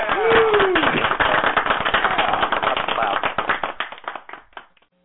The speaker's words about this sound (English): I'm gonna do a quick clap.